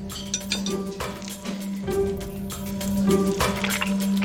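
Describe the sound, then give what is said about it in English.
Wet squelching as Gordon squeezes a greasy sandwich and the fat drips out, with small clinks over a steady low hum, with no voices. “Fat. Ew. Squelching.”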